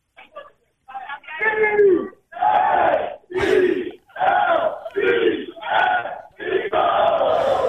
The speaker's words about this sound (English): Do you think you could start an Eagles cheer around there and they would do it?